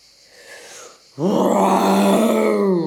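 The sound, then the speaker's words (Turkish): After a second of near-quiet, a person lets out a loud, sustained growling roar in imitation of a lion, held steadily until the end. “diye kükredi Snook aslan kılığında”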